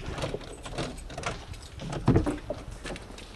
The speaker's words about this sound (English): She unlocks a big wooden door and leads us inside the basilica to a glass coffin on a plinth.